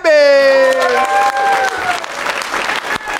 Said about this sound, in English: Why am I clapping for myself?